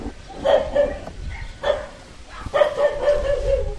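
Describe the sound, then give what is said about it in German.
Village dogs in Bogaros bark at strangers on their territory in repeated bursts, several loud barks in a row with short pauses, outdoors with a faint background hum. “Prinzipiell beißen Hunde am Dorf nicht, aber ihren Job tun sie offensichtlich ordentlich und melden sofort die Anwesenheit von fremden Leuten auf ihrem Revier.”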